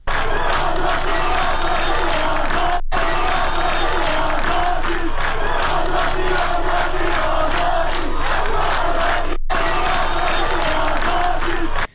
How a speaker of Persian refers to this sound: روز چهارشنبه صدها نفر از دانشجویان دانشگاه علوم پزشکی اصفهان شعار آزادی آزادی سر دادند.